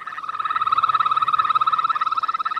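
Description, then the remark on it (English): A Yosemite toad's sustained trill mating call, calling females to the breeding sites: a rapid, steady pulsing buzz lasting the full few seconds, fairly loud, with no other sounds around it. “And the Yosemite toad has two basic calls. They have a trill, which sounds a little bit like a bird call.”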